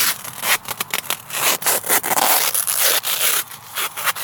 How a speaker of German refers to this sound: Zeckenschutz. Ja, natürlich. Also Klebeband gerade fünfmal ums Bein gewickelt.